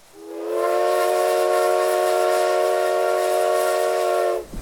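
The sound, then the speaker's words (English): The steam locomotive of an arriving work train, with a tender and flat car, sounds its whistle in one long, loud, steady blast with a rich chord-like tone and a faint hiss, holding for about four seconds before cutting off abruptly. No one speaks. “The work train, consisting of a locomotive, tender, and flat car, arrived an hour and a half later.”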